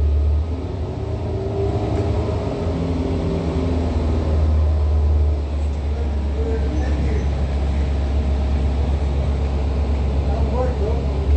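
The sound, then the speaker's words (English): An Omnitrans city bus, Route 88, bus number 1364, arrives at the Chino Transit Center, its heavy engine rumbling in a steady, deep drone with no letup, while a voice talks faintly underneath the vehicle noise. “Omnitrans is arriving in Route 88, bus number 1364, license 1535754, African American female, long extension, operating that bus.”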